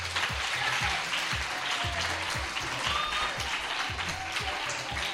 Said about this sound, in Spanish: Vamos a recibir en carne mortal y con un fuerte aplauso